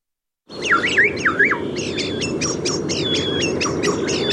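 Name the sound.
common starling song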